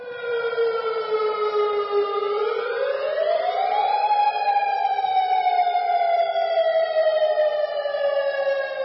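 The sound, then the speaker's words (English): A loud, continuous outdoor tsunami warning siren in local communities such as Sand Point and Kodiak, Alaska, sounded late Saturday night after a magnitude 7.2 earthquake, wails steadily, its pitch gliding slowly upward and then holding at a higher tone, with no voices present. “Sirens sounded in local communities, including Sandpoint and Kodiak, with officials urging residents to seek higher ground.”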